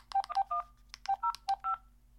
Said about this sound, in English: And I just dialed my phone number, which I just realized that people are probably able to recognize DTMF tones.